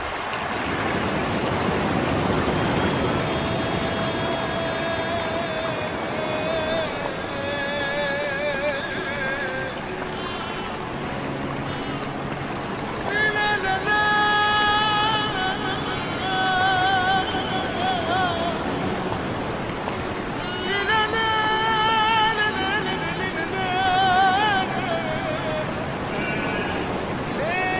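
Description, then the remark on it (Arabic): A loud, steady roar of rushing water as Moses splits the sea in two, surging like waves pulling apart, with swelling tonal sounds rising and falling over it throughout. “ليس بعد أيها المغرور، سأشق البحر نصفين بأمر الله.”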